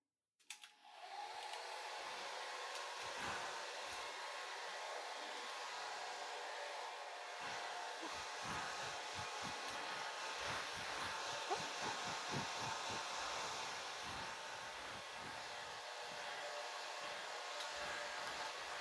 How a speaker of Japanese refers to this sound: じゃあ、ドライヤーで乾かしていくわね。